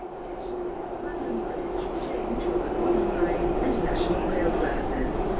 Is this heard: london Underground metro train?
yes